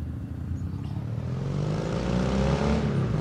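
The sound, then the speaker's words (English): A motorcycle engine hums and revs as it approaches along a street, ridden by a man, its pitch climbing and the sound swelling louder as it nears, with no voices present. “He's like a kid, so happy to be on his motorcycle.”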